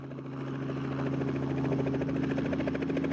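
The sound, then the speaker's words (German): A helicopter in a rapid climb toward a mountain range in the interior of a South Sea island, its steady rotor chop and engine drone loud and continuous with a low pulsing rhythm throughout. “Dann bringt uns der Helikopter in einem rasanten Steigflug zu einer Bergkette im Landesinneren.”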